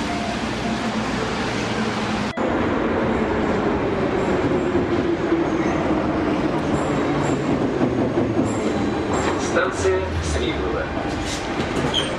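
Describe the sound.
A subway train rolls along with a loud, steady roar and rumble, a sharp clunk early on and faint metallic squeals later, with indistinct voices mixed into the din.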